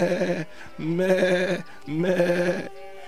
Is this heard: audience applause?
no